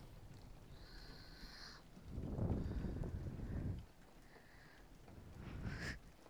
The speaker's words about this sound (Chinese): 抱一会儿，打雷啊！真的是烦，怎么今天雨下那么大呀？